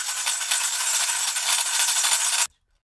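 Dozens of tiny bells around the edge of a liturgical fan, a metal disc with an imprinted angel on the end of a long pole, as used in Syriac church worship, jingle in a dense, bright metallic shimmer, shaken steadily for about two and a half seconds before cutting off abruptly into silence.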